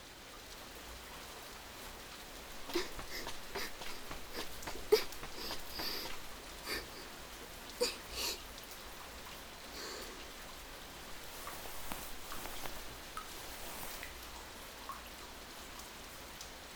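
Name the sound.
heavy rain falling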